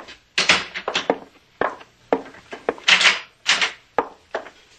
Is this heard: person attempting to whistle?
no